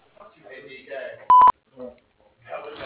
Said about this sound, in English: Hi, you have reached Louisville Tree Service. We are either on the other line or out of the office. If you would leave a message after the beep, we will call you back. Thanks.